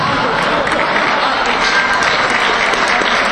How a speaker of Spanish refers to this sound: El aplauso de despedida para los chicos del fútbol sala juvenil Montesinos.